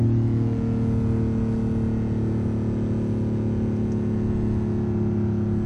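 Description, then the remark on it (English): A sports car with regenerative battery charging hums with a deep, steady engine rumble while being test-driven in Midrand, holding a fairly constant pitch and loudness throughout, continuous with no voices over it. “It's a beautiful sound, isn't it?”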